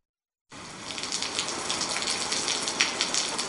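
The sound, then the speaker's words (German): Heavy rain pours down outside a theatre in the children's radio play Die Hühneroper, a steady, dense hiss after a moment of silence, with scattered sharper splashes and drips standing out against the constant wash of water. “Es regnete. Nein, es goss.”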